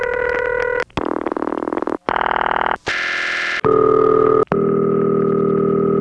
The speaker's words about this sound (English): Well, this is the ring that the phone freaks called City Ring. It's very dull. Definitely one of the main bell system rings for the US, namely these.